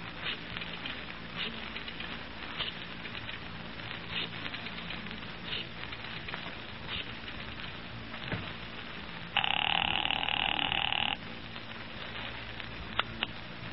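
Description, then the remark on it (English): Steady crackling hiss with scattered faint clicks as a phone is dialed in an office, then a single telephone ring lasting about two seconds before the hiss returns. No one speaks. “I've got an important phone call to make.”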